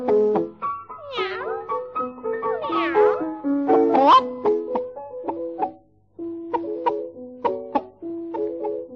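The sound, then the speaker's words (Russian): Several drawn-out, swooping meows, likely a voice imitating a cat, rise and fall over steady musical notes, followed by a stretch of melodic accompaniment. “Мяу-мяу, ночь спустила, блещет первая звезда.”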